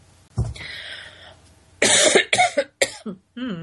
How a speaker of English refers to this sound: There's that cough.